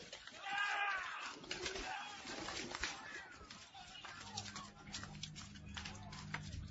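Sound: pigeons cooing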